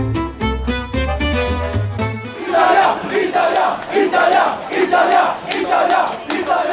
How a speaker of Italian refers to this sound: I tifosi italo-australiani di calcio a Melbourne stanno festeggiando come se si fosse ritornati ancora alla Coppa del Mondo del 2006.